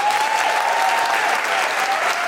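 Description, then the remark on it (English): An audience at a live show of The Guilty Feminist claps steadily for comedian Hannah Gowsey, a dense, even roar of many hands that holds at a constant loudness throughout, with a faint whistle-like tone running through it. “Well, big round of applause to Hannah Gowsey.”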